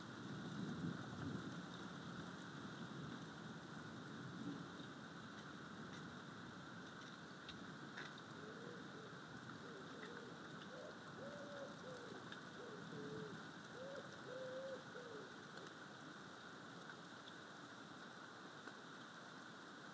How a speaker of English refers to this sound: I think the thunder's getting closer. And it's raining.